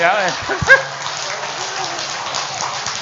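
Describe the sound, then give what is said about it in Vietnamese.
An audience claps in a steady, dense patter that lasts the whole few seconds, with a brief voice and a short whoop near the start cutting through the applause. “Thôi xin đờ hướng trở về lại chỗ cũ này cho ông tràng pháo tay.”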